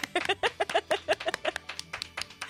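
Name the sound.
long applause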